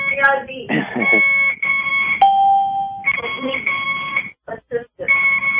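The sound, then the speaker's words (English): A woman's IV infusion pump beeps with steady, high electronic tones, mostly continuous, then breaks into a few short beeps separated by brief gaps near the end, over a low background murmur. “Her IV. You hear the beeping?”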